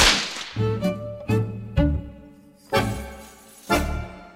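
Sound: whip cracking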